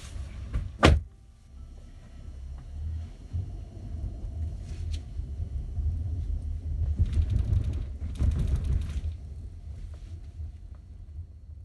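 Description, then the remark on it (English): Inside a car as a girl gets out to head back into school: a sharp door clunk near the start, then a low idling rumble with rustling and movement, a second door thump around the middle, and further shuffling as she exits. “And she hops out of the car and heads back into school.”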